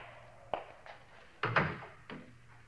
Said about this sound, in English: You mind closing the door?